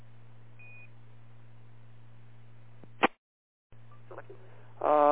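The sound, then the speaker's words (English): Short electronic beeps from a radio repeater phone over a steady low hum, with a brief crackling burst, a moment of dead silence, then a louder warbling tone at the end. “And that's my repeater phone.”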